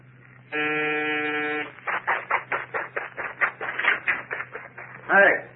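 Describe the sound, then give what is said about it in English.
A murderer's doorbell, rung at night, gives one steady, harmonically rich buzz lasting just over a second, then stops abruptly and people start talking. “You're ringing a murderer's doorbell.”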